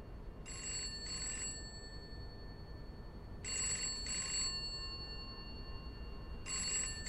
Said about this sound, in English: A phone was ringing upstairs. It sat on a wooden table with three sweeping legs on top of a knotted Kazakh rug in the middle of the room.